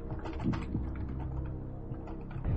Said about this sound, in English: Okay. So I've typed it. Now I just tell you right when I hit I'm Feeling Lucky?